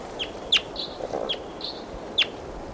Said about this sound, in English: Now back to the wild bird. Wild. Wild. Stop. Recording, here's a wild bird again.